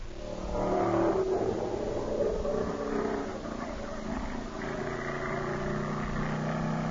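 A stock car engine at the West Peabody Speedway revs loudly, its low, throaty roar rising and falling in pitch with sustained growling harmonics throughout, with no voices over it.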